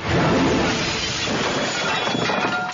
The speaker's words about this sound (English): Everybody dropping their plates and forks.